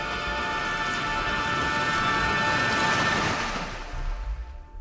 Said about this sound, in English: Capsizing. 32 hours. Took a real beating at the hands of the merciless tropical storm. It all seemed to be a lot stronger than we'd originally thought it might be.